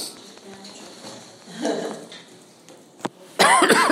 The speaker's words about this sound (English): excuse me, this cough just will not go away.